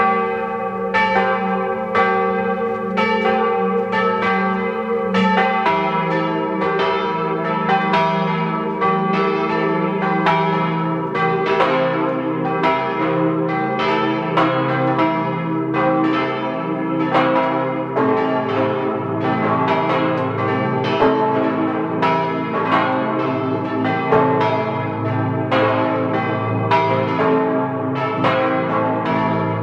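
The bells of the parish church of the Holy Apostles Peter and Paul in Söll, Tyrol, peal together at 12 noon in a steady, overlapping rhythm, loud and resonant with rich ringing overtones sustained throughout, with no voices present.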